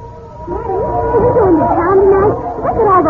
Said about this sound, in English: Listen to those wild dogs. They're all over the town.